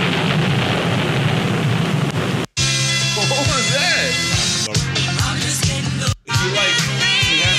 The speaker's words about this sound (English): but who knew that it had a fucking lightning and thunder intro?